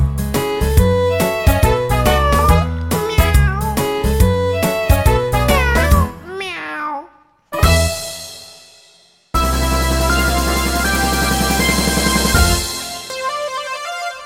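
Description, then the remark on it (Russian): Bright, bouncy keyboard music with several drawn-out, meow-like gliding tones rising and falling in pitch, likely a cat meowing. The music stops briefly, then continues. “И мило мяукает, вылокав миску.”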